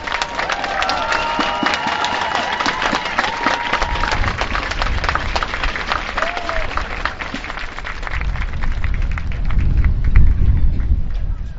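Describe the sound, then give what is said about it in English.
Sustained applause from a large crowd for U.S. military veterans standing to be recognized, dense and steady clapping with scattered cheers and whistles, growing a bit louder and rumbling toward the end. “Let's give these heroes a round of applause.”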